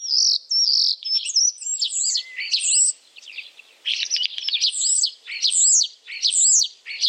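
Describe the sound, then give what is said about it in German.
A common starling sings a continuous, busy medley of whistles, clicks and rapid warbling phrases, fairly loud, with short pauses between bursts and no voices. “Also, es handelt sich um den Star.”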